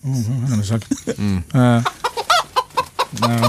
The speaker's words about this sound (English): Of a chicken, isn't it?